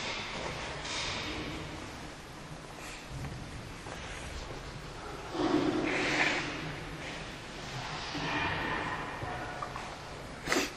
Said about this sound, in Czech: Já se musím vysmrknout, pardon.